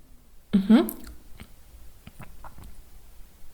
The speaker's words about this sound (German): So, ich stelle mich jetzt einmal hinter Sie und taste einmal ganz vorsichtig Ihre Schilddrüse ab. So, nicht erschrecken, meine Finger sind ein bisschen kalt. Ah, okay, gut, okay. Okay, so, dann schlucken Sie jetzt bitte einmal.